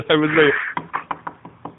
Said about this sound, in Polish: Jak tylko będzie za mało trójkątów, to on będzie biegł na trzecie piętro i będzie pukał do drzwi